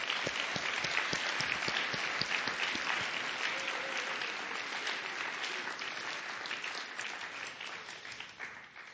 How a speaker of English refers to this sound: In fact, I think we ought to give him an applause.